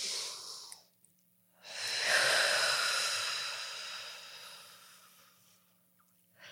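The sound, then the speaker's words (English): A short breath, a brief pause, then one long, slow, deep breath taken as a breathing exercise, swelling and gradually fading over several seconds. Breathy, with no talking. “Let's just take a deep breath now.”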